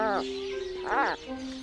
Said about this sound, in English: Let's listen. This is an Atlantic puffin.